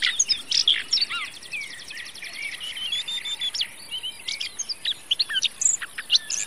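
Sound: red-backed shrike song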